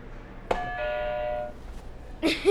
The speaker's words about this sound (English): Okay, so you can hit another buzzer.